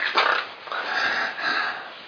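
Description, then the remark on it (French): A voice imitates the snort of a pig's snout with a few raspy, nasal snorting bursts in quick succession, fairly loud, with no other sounds around. “Je sais pas si vous avez vu un cochon, c'est quand son groin fait comme ça.”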